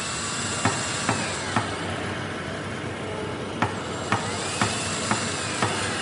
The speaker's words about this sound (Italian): Ci spostiamo di poco, abbiamo da una parte il cantiere della nuova sede della Findomestic, siamo sempre a Novoli, l'università appunto di Novoli, e poi alle spalle del Palazzo di Giustizia terreni incolti.